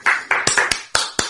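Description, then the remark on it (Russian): A handful of sharp hand claps, fairly loud, in a slightly uneven rhythm, like one or two people clapping briefly with no voices over them. “Standing ovation. Это когда овация и все стоят.”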